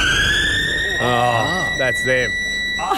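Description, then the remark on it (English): A steady, high-pitched factory break siren wails continuously for the whole stretch, loud and sustained, while men talk briefly over it. “So I played mine and I overlooked the fact that they had their own Smoko alarm thing.”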